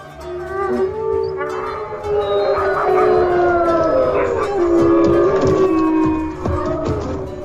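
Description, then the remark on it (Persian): Several wolves howl together in a loud, overlapping chorus, long wavering tones rising and falling across one another without pause for the whole stretch, full. “تا اینکه ناگهان یه روز سر و کله گرگا پیدا شد.”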